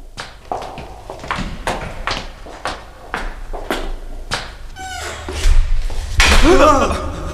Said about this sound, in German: Die Tür wurde zugeschlagen. War das Albert?